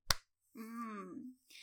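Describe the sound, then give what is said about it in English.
A single sharp, crisp slap of a hand on bare breasts, followed by a drawn-out voiced vocal sound and a short breath. “That's me slapping them.”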